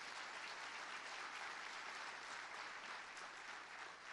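A church audience applauds for the Lord, a dense, even wash of many hands clapping at once that holds at a constant level throughout, with no voices standing out.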